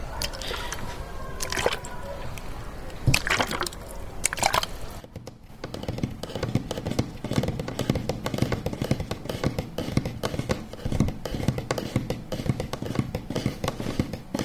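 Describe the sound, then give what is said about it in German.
Steady sloshing and squishing of water being shaken inside a water bottle, with a few sharp taps and clicks early on and dense rustling texture throughout, no speech. “Solche Geräusche wie die Wasserflasche zu schütteln oder den Tisch zu kratzen, soll für viele entspannt wirken.”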